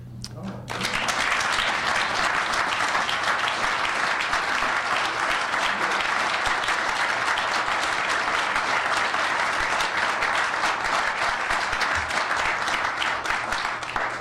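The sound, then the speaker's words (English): A crowd at a National Engineers Week celebration bursts into loud, sustained applause after a contribution to establish the San Diego Engineering Scholarship Fund is announced; it starts abruptly and continues steadily for over ten seconds, a dense wash of many hands clapping at once. “So now that you've clapped, I'll tell you the fine print.”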